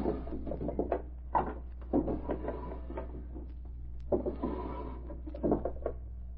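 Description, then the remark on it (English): Desk drawers in Lou Ellis' deserted private office are pulled open and rummaged through by flashlight: a string of wooden scrapes, knocks and rattles in two busy bursts separated by a short pause, with no voices. “I'll have a look through his desk first.”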